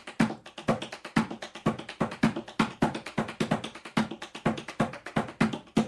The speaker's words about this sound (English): I love using my heel. Like, I maybe overuse it because it's the bass, it's the lowest sound, except for like a toe knock. But this is, if I'm going to use a heel in the paddle and roll I just showed you, I can use it lightly or.